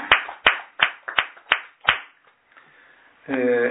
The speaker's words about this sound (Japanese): 満52歳になられましたので、盛大な拍手でお祝いをしてあげます。